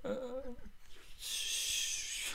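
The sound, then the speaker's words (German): Heavy breathing as Mulder, soaked and exhausted from running through the woods, stops for a short pause: a short strained, wheezy gasp with voiced tone, then a long rushing breath out, loud and hissy, with no talking. “Mulder keuchte und hielt für eine kurze Pause an.”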